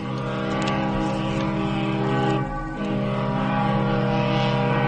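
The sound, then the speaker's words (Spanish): Ship horns blare as the first ships, full of people fleeing by sea, leave the harbor dock, in long, steady low blasts that overlap into a thick droning chord, dipping briefly midway before sounding again at full strength. No one speaks. “Sí, los primeros barcos salen ya del muelle. Oigo ahora sus sirenas.”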